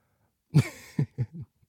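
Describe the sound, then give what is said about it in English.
A short fit of coughing after taking a hit from a bowl: one harsh, drawn-out cough followed by three quicker, smaller coughs in a rough rhythm, with no talking. “No, don't cough.”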